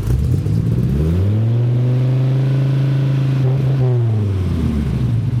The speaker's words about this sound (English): It's a very balanced. That V10 has a unique tone all by itself. Yeah. It really does. And that's the Viper attraction.